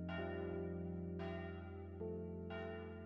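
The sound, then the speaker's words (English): A church bell rings softly in the distance, several strikes about a second apart, each tone ringing on and blending into the next with a long, humming decay. “and on the wind is the faint, soft sound of a bell in the distance, like the ringing of a church bell, comforting, soothing, peaceful.”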